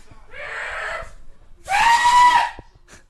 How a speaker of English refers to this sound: Screaming. Sorry, you're relaxing, yeah? Screaming over soup.